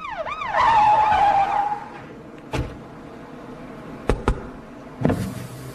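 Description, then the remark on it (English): A wailing police siren sweeps up and down over a car's engine as police stop the car for speeding, then fades, followed by a few sharp thuds and bursts of vehicle noise with no one talking. “Yes, no, I was thinking of the time when you were stopped by the police for speeding.”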